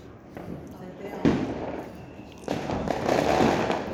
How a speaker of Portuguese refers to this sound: Eu queria pegar fogos. Pô, mas podiam ser fogos sem barulho, né? Coitado dos bichinhos.